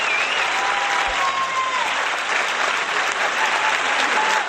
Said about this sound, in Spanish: Paco, ¿me vas a permitir que esa ovación que se lleva Elena también se la vamos a dar desde aquí a Ana Cinta, que ha sido quien ha conseguido que Elena trabaje como ha trabajado hoy, ¿eh?